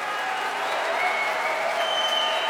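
concert hall audience applause

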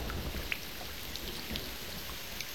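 falling rain

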